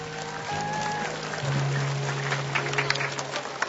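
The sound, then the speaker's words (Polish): An audience claps together in a dense, steady patter of hands that holds throughout, with a low steady hum underneath and no voices, applauding a group from the Divine Mercy parish in Brzesko at the 15th nationwide pilgrimage of children's backyard rosary circles. “Brawa dla nich!”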